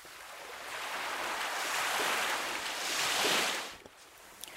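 Sea waves wash ashore in broad, hissing surges that swell and recede, with a louder crest near the end and a faint breeze underneath; no voices.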